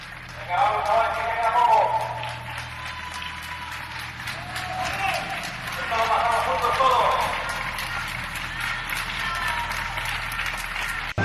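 Sustained afternoon applause for health workers, including nurses, auxiliaries and cleaning staff, a dense wash of many hands clapping that swells twice and carries on steadily throughout, with no voices rising above it.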